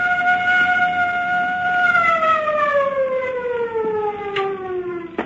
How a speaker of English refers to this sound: First the siren must stop. It offends my ears. Governor, give the order. This is the governor. Turn off the siren.